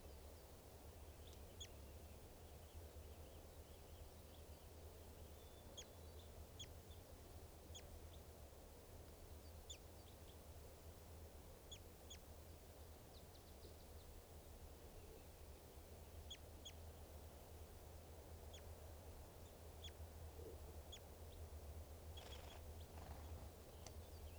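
bird, bird calling

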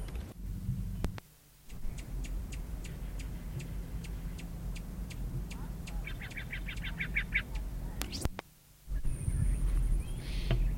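bird, male rufous hummingbird

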